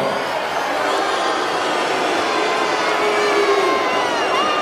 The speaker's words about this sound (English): World amateur champion from the Soviet Union, the Siberian Bull. The booing's here just as much, though. Drago.